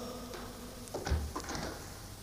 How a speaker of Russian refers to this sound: Дверь закрылась. Щелкнул замок, и братья остались одни.